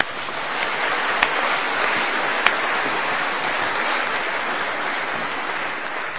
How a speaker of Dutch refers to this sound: Mag ook een applaus.